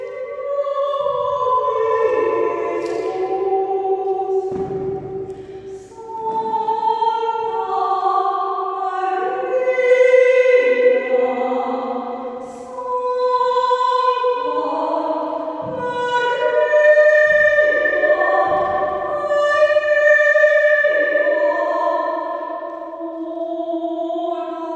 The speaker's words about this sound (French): le son rebondit sur les parois du bâtiment jusqu'à revenir à nos oreilles. C'est le phénomène de réverbération.